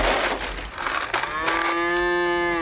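A cow on a farm lets out a single long, loud moo that swells and holds steady before fading, preceded by some rustling and breathy noise.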